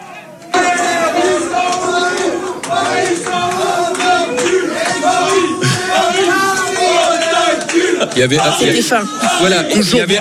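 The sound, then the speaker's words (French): A loud crowd in the bar-restaurant Nulle Part Ailleurs chants in unison after the final whistle of a football match, many voices holding a steady sung refrain commonly heard in stadiums for about ten seconds, with shouts and a few claps mixed in. “Et lorsque le coup de sifflet final a été donné, qu'on a vu les joueurs parisiens tomber à genoux, être dépités, voilà l'ambiance dans le bar-restaurant nulle part ailleurs.”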